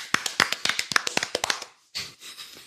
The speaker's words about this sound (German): Gibt's Applaus jetzt?